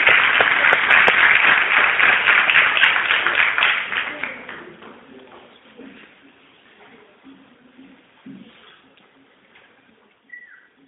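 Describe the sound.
An audience bursts into loud, dense applause that lasts a few seconds, then quickly dies away, leaving faint room murmur and scattered voices in the background.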